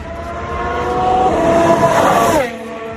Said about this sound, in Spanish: mira, de fondo te voy a poner el sonido de hoy del coche de la vuelta de Carlos Sainz a la pista. Ha sido en Fiorano con el Ferrari hace dos años y lo pongo de fondo y te voy contando.